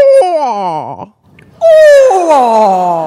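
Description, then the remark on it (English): A person's voice imitates a barred owl's call: loud, drawn-out hooting phrases that slide downward in pitch, ending in a wavering trail, a brief pause, then a strong descending hoot. “So if you have a woodland near you where you're hearing barred owls, if you go out and listen and you mimic the same thing back to them, they will often call back to you.”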